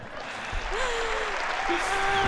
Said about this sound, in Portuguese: Eu era uma das pessoas que estava a aplaudir.